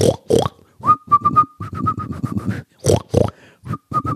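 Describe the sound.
A person whistling a bouncy pop tune of short repeated notes, fairly loud, broken up by rough snorting, grunt-like bursts between phrases. No one speaks.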